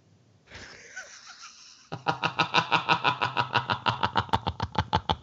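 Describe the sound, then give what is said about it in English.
A puppy shut in a closed room whines briefly, then breaks into a fast, steady run of high, squeaky yelps, about five per second, fairly loud and with no one talking. “Yeah, so anyways, we have a puppy, and apparently closing a room just means they cry the whole time.”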